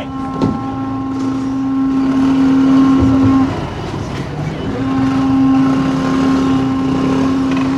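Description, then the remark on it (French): A heavy truck engine drones loudly as the truck forces its way through a motorway blockade at dawn, a steady low hum that dips briefly midway and then swells back, over a busy, noisy outdoor background. “Ah, y a le camion qui force le passage.”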